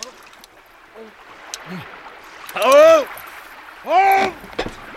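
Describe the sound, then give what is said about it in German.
Two drawn-out, wavering groans from a person, the second shortly after the first, fairly loud over a steady background of gently moving water, heard aboard a flatboat drifting down a river in fog. “Also wenn mich nicht alles täuscht, hat da jemand gestöhnt.”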